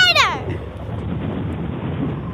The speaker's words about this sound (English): Whenever the wind sound effect comes on, you're supposed to talk far away from your mic and yell at it.